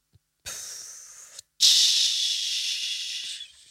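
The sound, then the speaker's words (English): A toilet flushing, heard as a high, airy rush of water: a short burst that cuts off, then a longer, louder whoosh that gradually thins and stops. No one speaks. “Sounds like they're being flushed down the, you know...”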